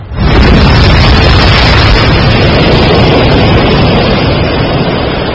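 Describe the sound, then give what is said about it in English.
Large Southern Ocean waves crash at South Georgia in autumn in a loud, continuous roar, a dense wall of churning surf that rumbles steadily for several seconds with no voices. “This ocean generates some of the largest waves on the planet.”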